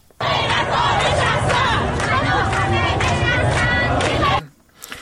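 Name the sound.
protest crowd chanting slogans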